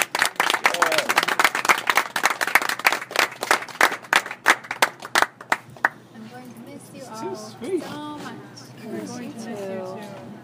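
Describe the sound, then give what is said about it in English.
A crowd applauds with dense, steady clapping for about six seconds in farewell to a woman, then the applause stops and a person begins speaking. “Let's give her a strong round of applause.”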